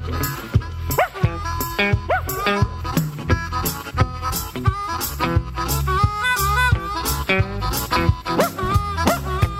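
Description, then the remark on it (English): A hound dog barks and yips repeatedly over loud, rhythmic band music with a steady beat, the yelps mixed in among the instruments. “Time I go to town, the boys keep kicking my dog around. Make no difference, ever he's a hound.”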